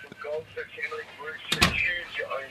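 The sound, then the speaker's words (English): A mobile phone's interference cuts into the microphone as a couple of sharp, crackly bursts close together, briefly breaking through while comedians keep talking during a live conversation. “is that coming through the fire? Mic? What the? No, that's his phone.”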